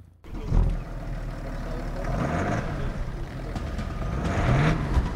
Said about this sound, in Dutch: Ik vind het een beetje heel erg bescheiden geluid. Ja, het klinkt als een vrachtwagen, maar het is echt een luxe limousine. Van buiten klinkt hij inderdaad wat broerder als binnen in de auto, hoor.